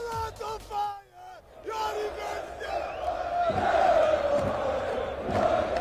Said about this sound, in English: This is a crowd chanting, Parrots on Fire. This is his club that he's playing with at the moment.